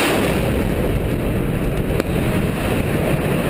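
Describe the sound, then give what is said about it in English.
A deep, steady roaring rumble from a controlled demolition blast bringing down a bridge fills the whole stretch, loud and broad, with one brief sharp crack partway through and no voices. “If you want to see what their version of controlled demolition of bridges look like, here you go.”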